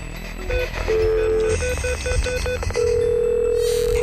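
A call being placed on a mobile phone: short electronic beeps and a few steady tones, then a long continuous ringback tone, with a low hum underneath and no voices.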